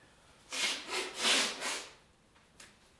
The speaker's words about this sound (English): Hang on a second. I'm going to blow my nose.